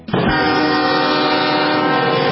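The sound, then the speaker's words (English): A train horn blares loudly and continuously, a steady sustained tone held as the train rumbles past, with no voices present. It is the special train carrying George H.W. Bush through small Texas towns toward the Bush Library and Museum at Texas A&M University. “The special train continues carrying George H.W.”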